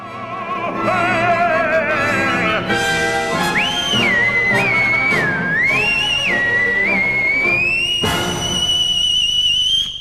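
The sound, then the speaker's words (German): The Devil whistles a sliding, wavering melody over a full orchestral accompaniment in Arrigo Boito's opera Mefistofele, the whistle rising and bending between held notes, loud throughout. “Dort singt der Teufel nicht nur, er pfeift auch.”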